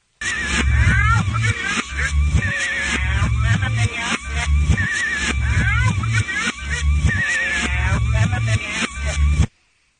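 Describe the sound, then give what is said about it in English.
A loud hip-hop track plays with a heavy, repeating bass-and-drum beat and a rapped vocal riding over it, cutting off abruptly just before the end. “Here's your song.”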